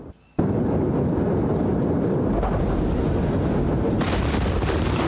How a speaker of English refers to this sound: So fireworks and ammonium nitrate. All right, we're going to put all the deadly shit in one warehouse. In video from the day of the blast, you can see white flashes, what appear to be fireworks, going off before the massive explosion.